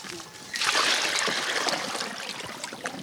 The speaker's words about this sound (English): We reach the fields along the Nile River. Bertoda wades in to fetch the animals some water.